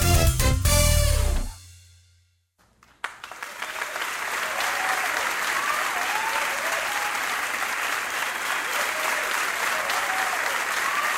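A loud song ends abruptly, and after a second of silence a crowd bursts into sustained applause, steady dense clapping with scattered cheers and whoops rising above it until the end.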